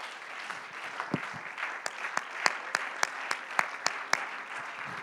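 An audience claps their hands unto the Lord in the name of Jesus, a wash of scattered applause that settles into sharp, steady rhythmic claps at a brisk even pace, moderately loud with no voices heard.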